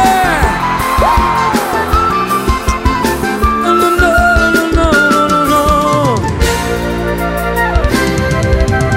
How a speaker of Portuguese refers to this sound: Quem tá feliz, aquele gritão, aê!